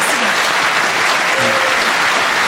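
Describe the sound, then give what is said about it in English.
An audience claps steadily, a dense, even wash of many hands with no pauses, loud throughout the whole stretch. “I think you need a round of applause for that.”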